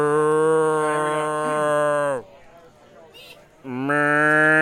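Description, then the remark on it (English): A person imitates a cow mooing: a long, loud, droning moo, a short pause, then a second moo starting up. “He needs to hear your best cow.”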